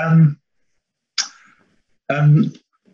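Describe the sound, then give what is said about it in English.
A single sharp, hissy sneeze bursts out, set between two brief voiced vocal sounds, with short silences separating each one. “God bless you.”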